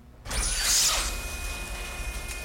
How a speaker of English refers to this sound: Saloon doors are open.